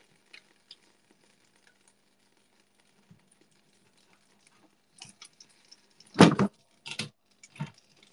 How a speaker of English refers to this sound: Okay, sauce in. Sauce in. It's sizzling, guys. Oh my God. It's sizzling!